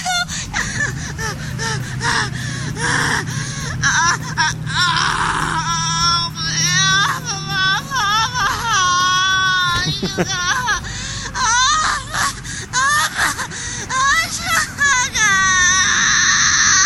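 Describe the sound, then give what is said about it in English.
A woman tied to a pole and suspended by rope screams and wails without forming words, her loud, strained cries rising and falling in wavering pitch, broken by gasps and whimpers throughout. “Yes, you're tied to a pole, suspended only by, you know, rope, but come on, with the screaming.”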